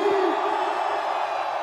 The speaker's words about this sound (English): Right now, I want to get a family photo, so on the count of three, I want everybody to raise their hands and scream. One, two, three, scream! One, two, three, scream!